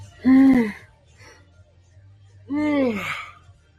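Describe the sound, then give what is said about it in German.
Two long, drawn-out voiced yawns from a man on a livestream, each rising and then falling in pitch, separated by a short pause, over a low steady hum. “Jetzt auch, er gähnt.”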